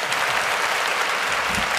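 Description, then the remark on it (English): Steady, dense applause from a crowd fills the whole moment, a broad wash of many hands clapping at once with no pauses, fairly loud. “Oh, I love the applause.”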